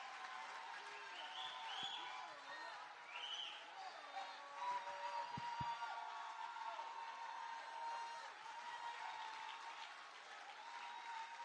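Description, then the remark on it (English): An audience claps hands steadily and continuously for Jesus, a dense wash of applause, with faint voices and occasional shouts mixed underneath. “Keep on putting your hand together for Jesus.”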